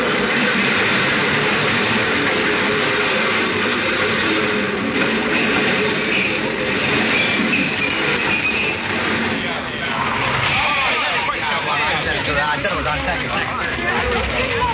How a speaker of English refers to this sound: I made myself draw back. But what I really wanted to do was to throw myself in front of that train. The lights on the shining rails hypnotized me like the gleaming eyes of a snake.